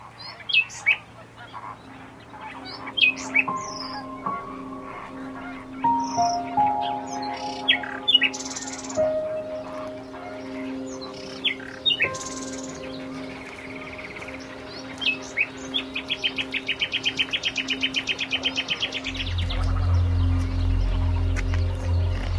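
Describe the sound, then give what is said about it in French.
A nightingale sings rapid, bright trills and whistles, surrounded by a busy colony of herons calling with rough, croaking honks; the chorus grows louder and denser toward the end. “On a un petit rossignol là, qui est en train de nous faire ses petites trilles. Et puis à droite, il y a toute une colonie de hérons.”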